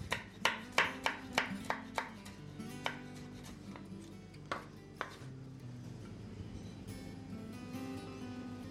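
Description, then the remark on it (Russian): Rapid knife strokes on a cutting board slicing a bell pepper into strips, a quick run of crisp chops that slows to scattered cuts, with faint background music underneath and no talking. “Тоже нарезаем всю соломочкой перчик.”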